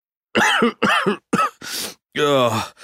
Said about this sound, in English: I have a cough and a fever, and I ache all over.